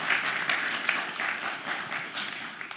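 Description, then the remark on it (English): A crowd applauds two people steadily, a dense wash of many hands clapping at once with no pauses, holding a fairly even loudness throughout. “Can we give the two of them a round of applause?”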